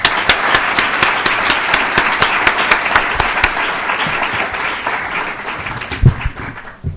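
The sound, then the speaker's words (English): An audience applauds steadily, a dense wash of many hands clapping with a few sharper claps standing out, sustained for several seconds before tapering slightly near the end. “Let's please give those words one more round of applause.”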